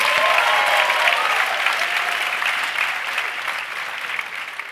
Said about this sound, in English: Let's get a round of applause as we're out for the break.